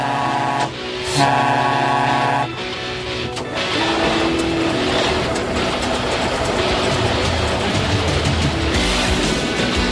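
The theme tune of a long-running children's science popularization TV show (1993–2014) plays loud: bright sustained synth chords open it, then a busy, clattering, train-like rhythmic texture drives on without any voices.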